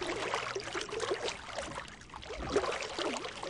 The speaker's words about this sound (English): This is maybe someone rowing a boat.